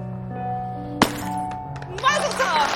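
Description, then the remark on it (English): At a wedding ceremony, the groom stomps on a cloth-wrapped glass that the rabbi placed on the ground: one sharp, muffled crunch of shattering glass over a low murmur of voices, followed a moment later by the guests breaking into cheers. “They share an excited smile and Ben stomps on the glass.”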